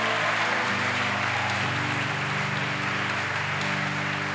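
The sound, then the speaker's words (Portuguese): A church audience applauds the Lord in a dense, steady wash of clapping that lasts throughout, with sustained low musical tones, like a held keyboard chord, playing underneath. “Dá uma salva de palmas ao Senhor com força.”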